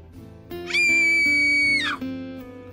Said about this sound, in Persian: سری به دنبال صدا رفتم. دوباره صدای جیغ آمد.